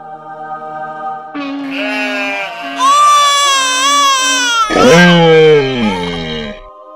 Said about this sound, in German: Esel, Schafe, Ochse, Jesuskind, Engel, die singen, ist alles da.